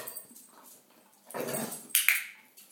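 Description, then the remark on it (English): A female dog vocalizes with a few short whimpering and yipping sounds, rising into louder, sharper bursts toward the end, with no talking. “I dig this dog.”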